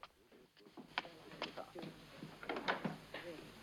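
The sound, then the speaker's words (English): A glass-paned door is opened a crack with a few sharp clicks and light knocks from the latch and frame, while muffled voices murmur in the background. “The door's opening.”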